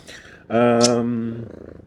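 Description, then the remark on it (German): A male cat purrs loudly for about a second, a steady rumbling tone that starts abruptly and then fades into quieter background noise. “Der Weihnachtsbraten meldet sich. Ja, der Kater möchte auch wieder mitspielen.”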